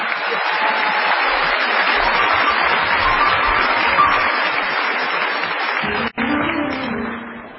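An audience bursts into steady, dense applause that stays loud for about six seconds, stops abruptly for a moment, then resumes more faintly as a voice starts speaking underneath.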